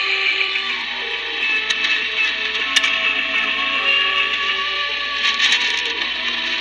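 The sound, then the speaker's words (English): Steady shortwave radio hiss broken by a few sharp static crashes, with faint wavering tones of a weak pirate radio broadcast on 6925 AM buried underneath, heard at 1300 UTC on a Sunday morning; no one speaks. “There's some static crashes there, but yeah, he's still there.”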